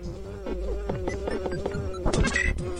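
A fly buzzes continuously around the head of the character Ness for the whole clip, a steady mid-pitched drone that wavers slightly in pitch and loudness, with a few brief scuffling noises toward the end.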